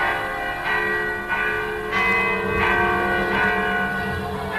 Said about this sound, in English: On each face of the tower, there's a large clock face. In time with these, Shandon's bells rang our lives away, quarter by quarter, all through the day and night.